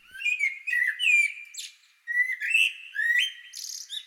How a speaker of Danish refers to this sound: hun bliver akkompagneret af en fugl, der elsker at fortælle os, at solen er stået op og begyndt at sprede sin energi.